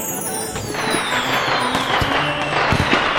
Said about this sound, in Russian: Ура! Салют! Побежали на улицу скорее.